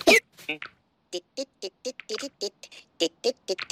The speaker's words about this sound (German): Der Elefant hat Schluckauf. Hast du vielleicht eine Idee, was man da tun kann?